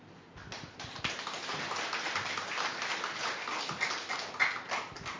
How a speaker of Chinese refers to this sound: 掌声是给我们的救主耶稣基督，因为今日圣诞节是纪念我们的救主耶稣基督为我们的降生